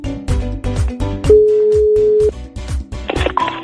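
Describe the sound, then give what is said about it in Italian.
A single steady telephone ringing tone of an outgoing call, about a second long, sounds over a rhythmic, beat-driven music bed, with a brief electronic flourish at the end. “Squilla e non è poco.”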